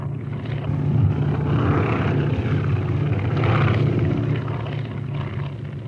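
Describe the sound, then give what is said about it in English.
The small propeller airplane Spirit of St. Louis, flown by airman Lindbergh from Long Island, drones steadily as it comes in to land at Le Bourget Airport, Paris. Its engine hum is low and continuous, swelling slightly twice as it passes, with no voices. “Thirty-three and a half hours after takeoff from Long Island, the little plane, the Spirit of St. Louis, landed at Le Bourget Airport.”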